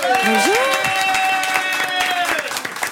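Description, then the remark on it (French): A studio audience breaks into steady, dense applause with a few cheers for actress Frédérique Bell, the clapping continuing while a voice rises above it in a drawn-out call. “Applaudissements pour la belle Frédérique Bell.”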